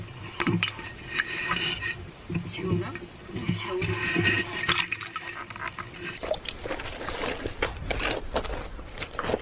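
Sliced cabbages are sloshed and soaked in saline water to remove water from inside them, with steady splashing and wet handling noises running throughout, over faint indistinct background murmur.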